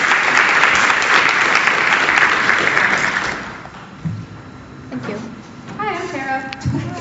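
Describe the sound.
Dense, steady applause from an audience, clapping for a woman invited up to share a testimony of what God did in her life, fills the first three and a half seconds, then fades out as a few voices and murmurs take over.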